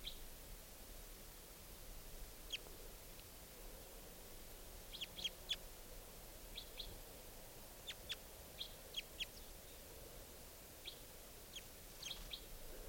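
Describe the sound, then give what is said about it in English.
Short, high-pitched calls of a wild bird up in a larch, foraging, ring out in scattered clusters over a steady hiss of background noise, some notes doubled or tripled in quick succession, fairly faint overall, with no voices. “This is the wild bird.”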